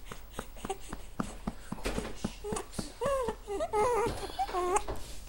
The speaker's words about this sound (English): And he got the hiccups.